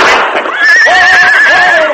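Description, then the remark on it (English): Simon Fenton's horse, panicked by the sound of a gunshot the Marshal fired accidentally into the air, gives a loud, high whinny lasting most of the two seconds, its shrill pitch wavering and shaking before it trails off, as it rears high and bolts north. No voices over it. “The bullet went harmlessly into the air, but the sound of the explosion, coupled with the confusion, panicked Simon Fenton's horse. The horse reared high, then bolted north.”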